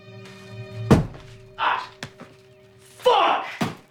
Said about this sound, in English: He takes a packet of popcorn from a cupboard, and as he straightens up, he bangs his head.